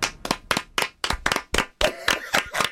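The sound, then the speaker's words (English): Crisp hand claps during the No Name Movie Game on radio station 106.5, in a quick, slightly uneven rhythm, about a dozen over a few seconds, growing a bit fuller toward the end, as if a small group were clapping along. “Now the clapping has to go on for too long.”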